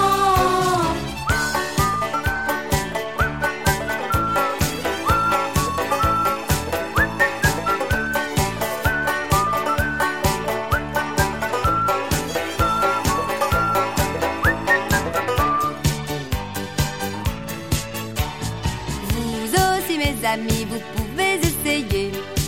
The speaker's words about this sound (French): je me mets à siffler. On a beau faire ce qu'on veut, on a beau dire ce qu'on veut, c'est plus facile, beaucoup plus facile, de marcher, de travailler, de faire des choses compliquées, en sifflant une chanson.